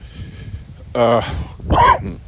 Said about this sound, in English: same dog in the backyard. I believe I got her to bark. She's out here with me now. I wonder if I can get Lucy to bark.